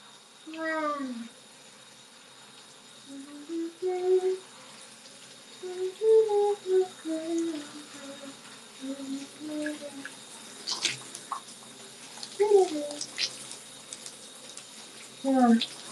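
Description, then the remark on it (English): A shower runs with a steady hiss of spraying water throughout, while a voice hums or sings a wavering melody on top, pausing now and then. “I feel like I should try singing in the shower a bit, but I think my nose is still congested”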